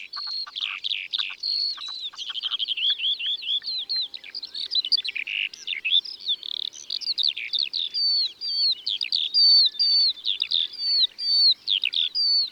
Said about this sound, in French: Une alouette des champs s'élève dans le ciel en chantant.